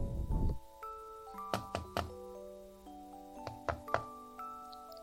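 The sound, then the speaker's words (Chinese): Two quick bursts of knocking on an older brother's door, three raps then two, firm, over soft background music with sustained tones; a brief rustling thump comes at the very start. “哥哥，开门，你的小可爱回家了。”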